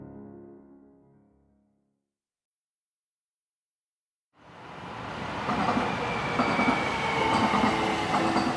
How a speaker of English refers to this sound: When the Gold Line train arrives at the Highland Park station between downtown LA and Pasadena, passengers get off in a rapidly gentrifying part of Los Angeles.